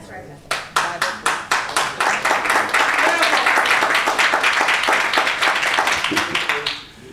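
An audience claps in a steady rhythm, a few distinct claps at first quickly swelling into a loud, dense wash of many hands clapping together before fading at the end.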